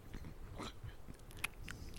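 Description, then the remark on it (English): Two people eating cookies in a car while driving: several crunchy bites and chews crackle in irregular bursts, with one sharp snap standing out, over a low steady rumble. “They're both eating cookies.”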